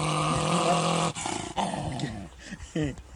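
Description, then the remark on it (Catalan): A dog growls loudly, a thick continuous rumble for about a second, followed by shorter, rougher snarling bursts with brief pauses between them. “Ah, tú ve un gos així, dius, bueno.”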